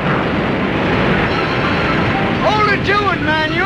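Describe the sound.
Two ships leaning and pitching through rough sea: a steady, loud roar of wind and churning water throughout, with a few brief shouted voices rising and falling over it near the end.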